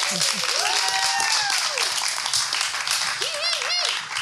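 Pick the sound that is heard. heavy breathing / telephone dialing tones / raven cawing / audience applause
audience applause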